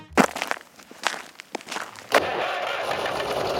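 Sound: tractor engine starting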